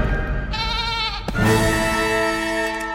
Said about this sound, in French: une chèvre ? Incroyable !